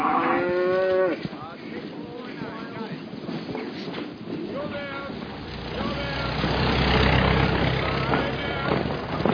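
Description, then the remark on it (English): Several cows moo loudly, their drawn-out calls overlapping, while a low rumble like an idling engine builds underneath and grows louder toward the end. “Get those cows out of here.”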